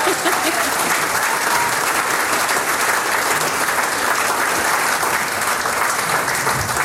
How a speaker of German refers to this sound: Danke der Chorleiterin, man darf sie ja ab und zu selber einen Applaus spenden.